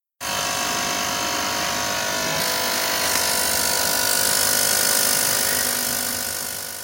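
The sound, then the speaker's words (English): A steady, continuous mechanical buzz from a pressure regulator valve with air in it, struggling as it tries to regulate pump pressure, with a harsh, high, hissy edge, holding at a fairly even loudness for several seconds with no talking. “Therefore, when the valve attempts to regulate pump pressure, it struggles a bit and produces a buzzing sound that you can hear.”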